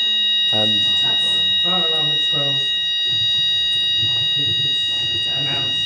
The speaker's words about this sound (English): This is an announced fire alarm, which we wait for it to stop. Let's just wait for a moment and hope that it's short-lived.